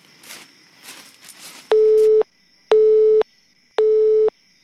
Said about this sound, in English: Now, where is that blasted racket coming from? It's the car phone. Must be from the Retroist.